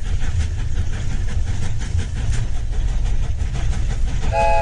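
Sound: train passing with whistle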